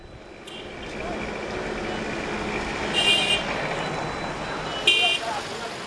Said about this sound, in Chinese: 索马里首都摩加迪沙布满灰尘的街道，曾经被认为是世界上最危险的地方，这里曾几乎每天都发生战斗，但现在世道变了，令人望而却步的街道又出现了嘈杂的交通。在这些曾经只有坦克和手持 AK-47 步枪的年轻人才敢穿行的街道上，还奔跑着黄色的出租车。